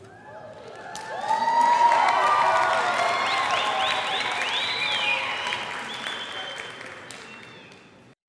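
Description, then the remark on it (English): A crowd at a graduation ceremony applauds the graduates steadily for several seconds, the dense clapping swelling early and holding loud, with scattered cheers and whoops rising above it before it tapers off. “This is a large group of graduates for us, and let's have another round of applause for them.”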